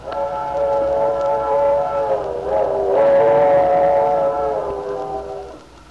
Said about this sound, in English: When I was a girl, a train whistle used to make me imagine the most exciting things. Travel, distant places.